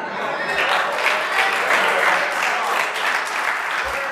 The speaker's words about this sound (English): I haven't even gotten to the point, but you already started clapping.